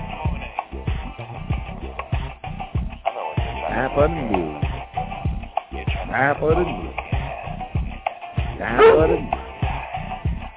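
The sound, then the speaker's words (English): An excited dog barks and yips in rapid, uneven bursts, with a few higher whining cries rising out of the run of barks, fairly loud throughout. “I know you're excited, dog.”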